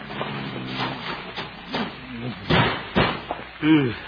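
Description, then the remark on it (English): A heavy metal filing cabinet is dragged and shoved against a door to barricade it, with scraping noises and two or three loud thumps, mixed with a person's straining voice. “Filing cabinet.”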